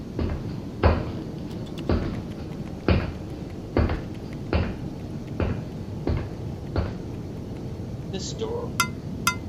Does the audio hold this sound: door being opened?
yes